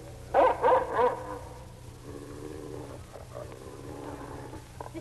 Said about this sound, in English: What dog is that? He came with the master. With whom? With the master.